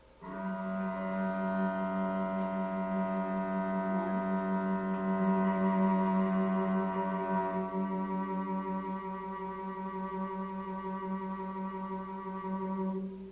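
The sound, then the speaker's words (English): Two steady electronic reference tones, played by pushing buttons, hold together for about thirteen seconds as a sustained harmonic chord, fairly loud, with no one talking over it. “So what I'll do is, I'll push the buttons for the 2 tones so you guys can hear it, and then I'll have you guys sing it.”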